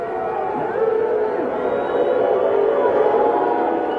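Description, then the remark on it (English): A large crowd on the field fills the air with a sustained, low droning roar of voices, a steady wall of booing heard on a broadcast, swelling slightly and holding without pause for a few seconds. “I thought I heard booing, and this is what it sounded like on the air.”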